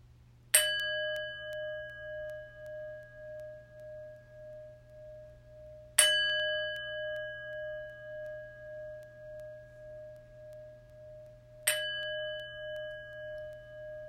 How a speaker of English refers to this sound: The chimes will call us to prayerful meditation.